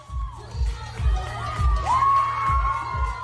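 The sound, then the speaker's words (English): A crowd cheers wildly, with shrill, swooping whoops and screams rising over a steady, pounding bass beat, as a drag performer in a cape dances and lip-syncs, swinging the cape around her body and kicking it up. The roar stays loud and unbroken throughout. “At one point, she swings the cape around her body, kicks it up, and the crowd goes wild.”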